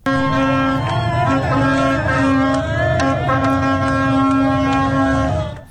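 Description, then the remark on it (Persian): Many car horns blare together in long, overlapping sustained honks, loud and continuous over a busy street din, with shorter toots popping in and out, as people in the streets of Tehran, Iran celebrate the national football team's win over Morocco. “خب در خیابون‌ها تصاویری که هستش، مردم چراغ اتومبیل‌ها رو روشن کردن، بوق می‌زنن، شادی می‌کنن، می‌رقصن و همونطور که تو گفتی شیرینی پخش می‌کنن.”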